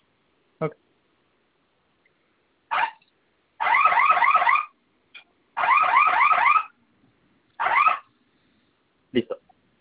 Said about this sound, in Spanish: Y vamos a realizar la prueba nuevamente. Oprime el botón de la flamita, que se escuche la alarma y ingrese la clave para silenciar,